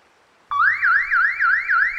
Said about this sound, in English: There are more alarms like the one above. Every minute you linger, another alarm will be triggered.